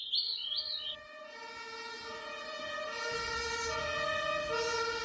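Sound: ambulance siren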